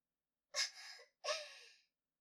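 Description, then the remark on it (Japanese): Two heavy, ragged breaths from a middle-aged man, each a sharp gasping intake trailing into a long breathy exhale, like someone panting hard and out of breath. No talking. “おじさん、すごい息切れしてる。”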